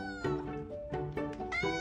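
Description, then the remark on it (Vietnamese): A cat meows several times in quick succession, a series of short, high, plaintive cries with a clear tonal quality, fairly loud with no talking. “Chẳng hạn như tần số âm thanh của mèo được ghi nhận từ khoảng 25 Hz đến 150 Hz.”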